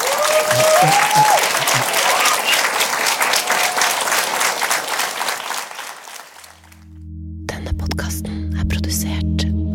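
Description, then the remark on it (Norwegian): A dense burst of audience applause for Henning Rød, loud, fading out after about six seconds before an unrelated tonal segment begins. “En stor applaus til Henning Rød.”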